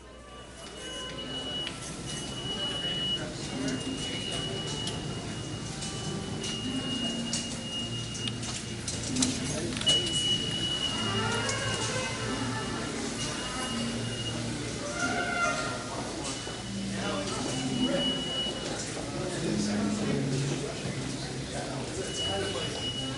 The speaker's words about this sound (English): So it's, you know, about as midtown as you can get. So now let's go ahead and take ourselves a subway ride.